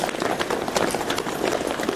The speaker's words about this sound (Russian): И, значит, я вместе со всеми бежал и слышал этот цоканье копыт. Казацкие сотни, которые разгоняли толпу.